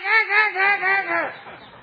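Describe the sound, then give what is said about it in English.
A man's voice imitates a parrot frightened by a cat, letting out a quick run of about five shrill, strained squawks in steady rhythm, loud, then trailing off into quiet. “But when the cat comes, what does he go?”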